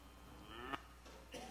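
cow mooing

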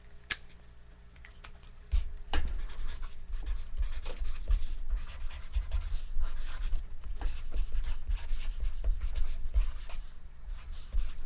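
writing on paper

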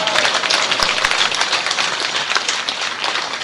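audience clapping

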